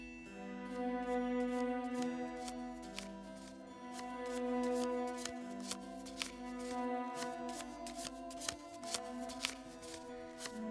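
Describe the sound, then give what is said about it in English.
A deck of playing cards is shuffled repeatedly for a fortune reading, crisp riffling snaps and flutters over a sustained musical drone, with sharp card clicks growing denser toward the end. “Now, as you shuffle the deck, feel your energy flow into the cards.”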